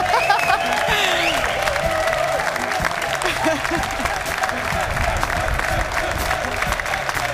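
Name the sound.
studio audience applause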